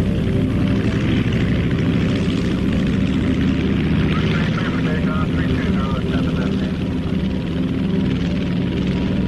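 A loud, steady propeller-plane engine drones throughout, a thick low rumble with a buzzing roar on top, as the aircraft carrying Manchester United footballers revs up on a snowy, icy runway in Munich on 6 February 1958, attempting takeoff for the third time.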